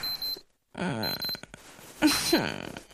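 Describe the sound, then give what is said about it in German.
An alarm clock rings in short, high, shrill electronic bursts, stopping and starting, while a voice groans and mumbles wordlessly underneath. “Ich hasse dieses Klingeln.”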